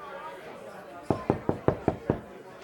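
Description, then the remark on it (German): Six quick, evenly spaced knocks on a door, fairly loud, following a moment of quiet room tone with faint background murmur. “Und hat gerade auch geklopft. Ich weiß nicht, ob du Besuch erwartest, aber da steht noch jemand vor der Tür.”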